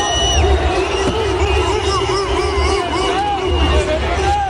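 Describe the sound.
A loud football crowd of Vitesse supporters chants monkey noises at Ajax goalkeeper André Onana, many voices making repeated wavering "ooh-ooh" hoots that imitate apes, rising and falling over a constant roar of crowd din and shouting.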